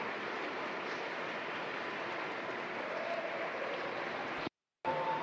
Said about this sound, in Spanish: Démosle un cálido aplauso a nuestro vicepresidente, el señor